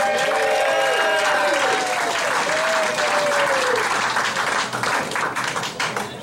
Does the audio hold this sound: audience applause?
yes